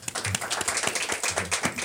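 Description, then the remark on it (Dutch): A crowd applauding a harpist, a steady dense wash of many hands clapping together at an even loudness, with a few sharper individual claps standing out throughout. “geef een groot applaus voor haar.”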